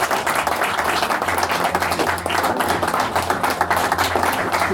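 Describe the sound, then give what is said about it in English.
A crowd claps steadily for several seconds, a dense, continuous patter of many hands with no voices standing out, holding at an even, fairly loud level throughout. “Big round of applause.”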